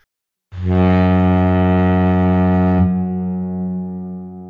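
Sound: on board a boat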